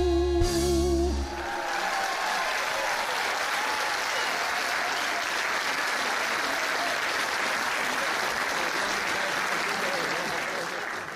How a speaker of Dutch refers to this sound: Nou, dat applaus was zeker wel verdiend.